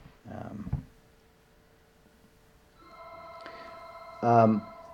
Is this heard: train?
no